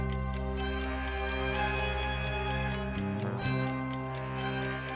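A steady, evenly spaced ticking like a clock runs across the whole stretch, sitting on top of loud, sustained orchestral music with no voices.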